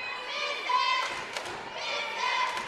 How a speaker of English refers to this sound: And the cheerleaders want him to miss it as they stomp the bleachers.